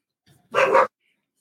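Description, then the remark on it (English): An excited dog gives one sharp, loud bark, preceded by a faint short whine, then silence. No one speaks. “Sorry, my dogs are excited.”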